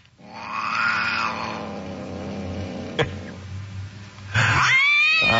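A long, drawn-out cat meow that wavers up and down, a brief click, then a second sharper meow rising in pitch. Both are loud and close, with no talking.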